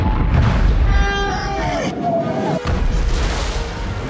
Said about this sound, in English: Angus falls to the ground as the cannons open fire. In the loch, Cruzo is swimming along when a shell touches down close to him.